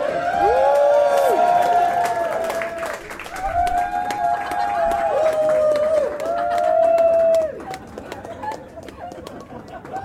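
An audience claps steadily for several seconds while high, sustained cheers and whoops ring out over the applause, which thins out and fades toward the end.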